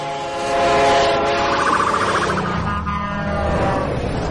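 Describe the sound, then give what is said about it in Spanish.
A loud train horn blares steadily over the rumble of a passing train, its pitch dropping slightly as it goes by, with no voices present. “Oyes que el tono va cambiando a medida que el objeto se acerca o se aleja de ti.”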